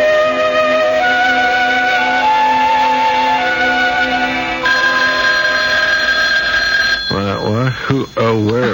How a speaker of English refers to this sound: It's not the alarm this time, darling. It's the phone dummy. Here, I'll get it.